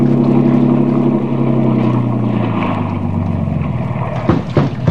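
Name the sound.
motorboat engine running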